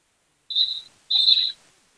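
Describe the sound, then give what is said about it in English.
A referee's whistle blows twice in quick succession during a basketball game, signalling a foul called on Alex Koenig: two sharp, shrill blasts, the second slightly longer and louder, heard clearly with no talking over them. “And another whistle here.”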